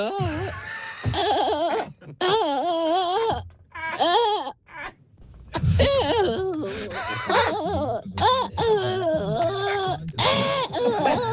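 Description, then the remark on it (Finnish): Several high-pitched, dubbed cartoon voices of panda children in a children's TV programme cry and wail together in wavering, sobbing bursts. They are loud, with brief pauses between outbursts and a busy, overlapping feel. “Tässä tulee pandalapset lapsen ohjelmassa. Kaikki itkee.”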